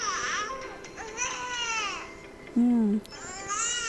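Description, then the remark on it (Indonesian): A young infant cries from hunger in short, repeated wailing bursts with a nasal 'neh'-like quality, fairly loud, with a brief deeper tone cutting in partway through. “Coba lambat-lambat dibedakan, diperhatikan suara mesti ada suara N ya, neh, itu artinya dia memang lapar.”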